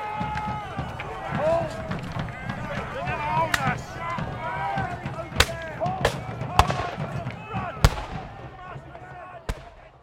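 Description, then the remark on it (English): Irregular sharp gunshots crack out in a battle between Texian and Mexican soldiers on a smoky, muddy field, half a dozen loud bangs spaced a second or so apart over a constant din of shouting voices and commotion. “Instantly, the field became a mire of smoke and mud and men thrashing to the violent rhythms of gunfire.”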